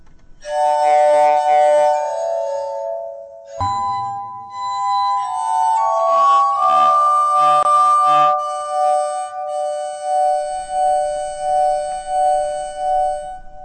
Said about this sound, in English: That was written by Beethoven. It's one of the few pieces we have here at KPR scored for glass harmonica. That's simply called melodrama for glass harmonica and voice. And Thomas Bloch was playing the glass harmonica